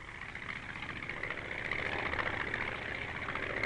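airplane cabin engine hum

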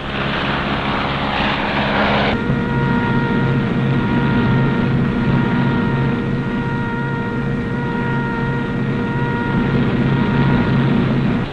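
airplane engine

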